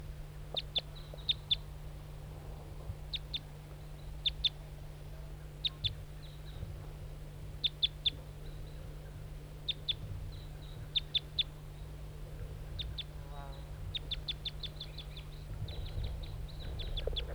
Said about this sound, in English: Start recording the wild bird. It's a lone male, all red.